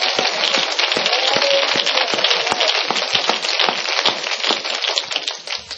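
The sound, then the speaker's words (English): A church audience claps their hands to the Lord in a dense, steady roar of overlapping claps that holds strong for several seconds, then thins slightly at the very end. “Let's clap our hands to the Lord a moment.”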